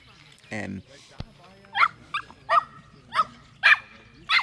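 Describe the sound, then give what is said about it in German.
A dog barks repeatedly in a quick, uneven series of about six sharp yaps, with a brief whining or vocal sound just before the barking starts. “Ein Hund.”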